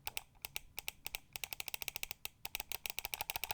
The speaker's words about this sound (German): Corsair Seima V2 Pro Ultralight Wireless, linke Maustaste.